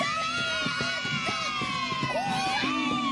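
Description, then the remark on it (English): A large crowd of Highland clansmen in kilts shouts and cheers together, a dense, steady wall of many overlapping voices held at a loud level for a few seconds, with individual yells rising out of the mix. “Let's give a cheer for the clan of the duck.”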